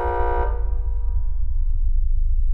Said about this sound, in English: Sound. The unpleasant blare of a door buzzer.